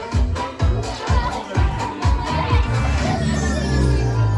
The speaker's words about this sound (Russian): Поддерживаем наши аплодисменты!